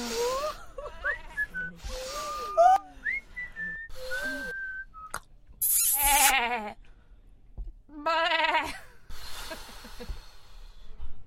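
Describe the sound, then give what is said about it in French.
Squeaky, whistling kiss sounds followed by several loud, quavering bursts that bleat like a goat, coming in separate bouts with short pauses between them. “C'est des bisous chèvres en plus aussi. Ah mais oui, ils bêlent un peu ces petits bisous.”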